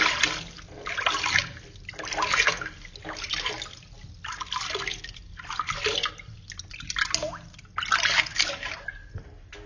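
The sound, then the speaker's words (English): Water is poured over a person's back in a bath and splashes in several bursts, about six uneven pours with short gaps between them, moderately loud, with trickling and dripping in between. No one speaks. “Let me pour some water on your back.”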